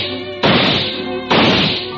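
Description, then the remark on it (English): Two loud, sharp gunshot blasts from a gun fired point-blank, about a second apart, each with a booming decay, ringing out over steady blaring music from a radio. “Silently, you edge over toward him, the radio blaring away in the corner, loud enough to cover even the sound of a gunshot.”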